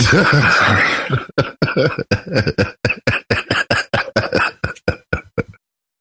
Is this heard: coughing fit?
yes